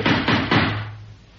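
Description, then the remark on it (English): A woman knocks on a wall: three dull, heavy knocks in a steady rhythm, each a broad low thud, followed by a fading low hum with no voices. “She's knocking on the wall.”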